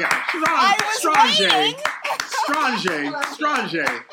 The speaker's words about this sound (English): Wow. That, I got to clap for that.